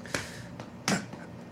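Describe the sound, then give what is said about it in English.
Two sharp, fleshy slaps of a person's hand on their own belly, the second louder than the first, with a quiet pause between them and no talking. “Okay, now give it a big slap.”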